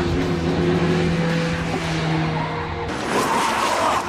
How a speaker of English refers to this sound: What makes it hard to keep control are all the bumps. It takes practice to keep the truck going straight. All right, give us more gas.